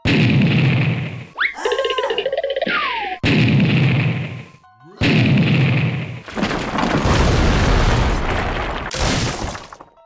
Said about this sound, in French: Hé, il lance des bombes. Des feux d'artifice.